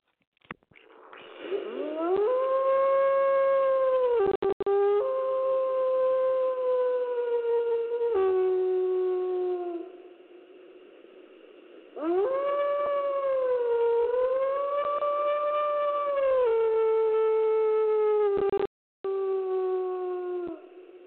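Wolves howl in long, loud, sustained wails that rise and slowly fall in pitch, two extended howling passages separated by a brief quieter lull, with no talking.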